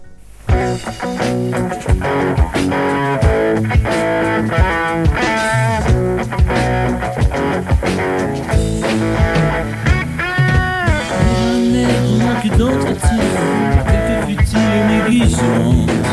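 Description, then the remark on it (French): A steady stretch of instrumental music isolated from an old cassette, with no singing, dense and rhythmic, with pulsing chords and melodic lines held at a consistent, fairly loud level throughout. “j'ai pu isoler les instruments en fait à partir d'une vieille cassette”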